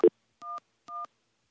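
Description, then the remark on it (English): A short click, then two touch-tone telephone keypad beeps, each a steady dual-pitched tone lasting a fraction of a second, evenly spaced and clear, with no talking. A phone is being dialed to reach directory information. “What's the phone number for 411?”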